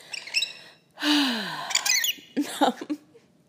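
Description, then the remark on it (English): Pet birds chirp and squawk in short bursts: bright high tweets, a loud call with a sliding, falling whistle, then a quick run of raspy chirps. No one speaks. “See what I did there, birds?”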